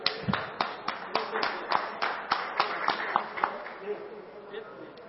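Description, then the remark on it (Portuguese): A round of applause for an honoree receiving a title of Napolina citizenship. Sharp claps repeat evenly for about five seconds at a moderate level, fading slightly toward the end, with a faint murmur underneath. “e a qual eu peço aos nobres pares uma salva de palmas ao nosso homenageado.”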